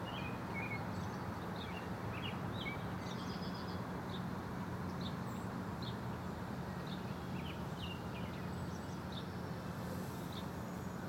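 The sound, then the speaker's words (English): Several different birds chirp and twitter in short, scattered calls, fairly faint against a steady, loud wash of city traffic rumble that continues throughout, in a park by the Cloud Gate sculpture, with clouds moving in before rain. “There's a few different ones.”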